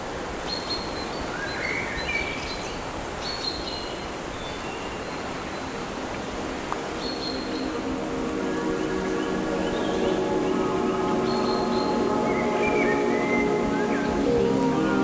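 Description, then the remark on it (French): A steady, rushing wind blows in gusts through thick woodland throughout and swells a little partway in. Scattered bird chirps and calls sound faintly above it, with no voices. “quelques rafales de vent.”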